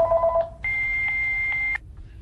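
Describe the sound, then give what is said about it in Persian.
A telephone's electronic tones: a short lower tone, then a longer steady high-pitched beep like an answering machine signal, heard alone with no voices. “آخه من که نمیتونم گوشی تلفنتو رو بردارم جواب بدم.”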